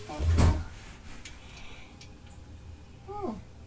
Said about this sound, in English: What do you think it is? It's the front door! Oh, yeah! Somebody at the front door. Who do you think it is?